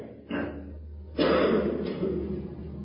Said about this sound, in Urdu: یہ کس کو کھانسی ہے, کس بچے کو ہے؟